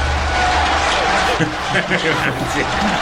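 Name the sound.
stadium crowd applause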